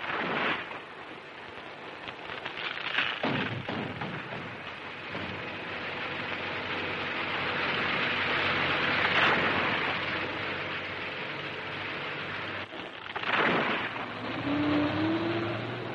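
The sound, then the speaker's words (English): Heavy machinery engines rumble and grind steadily throughout, with several louder surges and crunching bursts as tractors and bulldozers push over and uproot trees to clear forest for new settlement in the Peace River District. “The trees are uprooted with tractors and bulldozers.”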